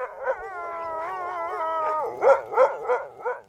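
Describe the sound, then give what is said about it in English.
Sled dogs at the Mahoosuc Inn, back from a 48-mile race lap for vet checks and a 4-hour rest, howl together in a long, wavering chorus, then break into four or five sharp, rhythmic barks and yelps. The dogs sound loud, with no voices. “After one 48-mile lap, the teams are back at the Mahoosuc Inn, where the dogs are examined by vets and must have a 4-hour rest.”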